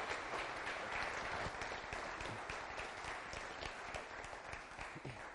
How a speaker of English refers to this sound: Bring him up with a round of applause.